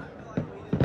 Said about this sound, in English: You can hear the fireworks in the background for number 24 in 2024, William Byron, only 26 years old.